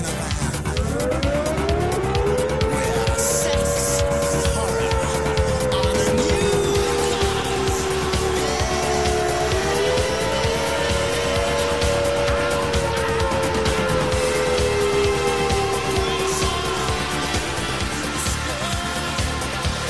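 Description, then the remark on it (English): An all-clear warning siren rises at the start, then holds one long, steady tone for nearly twenty seconds, loud and continuous over a rough background rumble, with no one talking. “Here is the all clear one. When you hear this sound, you can leave your car.”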